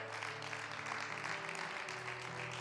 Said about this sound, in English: Now give the Lord an applause for what he's doing in your life. And give him a little more applause for what he's going to do tomorrow.